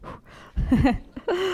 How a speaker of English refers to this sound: Can you all hear me breathing?